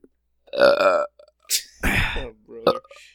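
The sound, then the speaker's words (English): A loud, drawn-out belch rumbles for about half a second, followed by a few short vocal noises and a breathy exhale. “That burp was brought to you by 411 Mania.”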